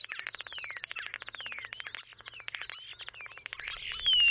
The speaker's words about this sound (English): Starlings, at first glance, are a plain black monochrome little bird, but look closer and they'll blow you away.